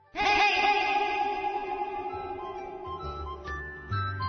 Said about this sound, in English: It's an echo, the little girl shrieked.